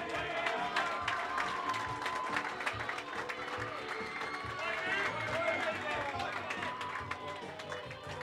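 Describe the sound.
An audience applauds steadily for about eight seconds for a cornerback of Scariff, the intermediate champions, a dense, even wash of many hands clapping at a constant loud level, with crowd voices mixed in.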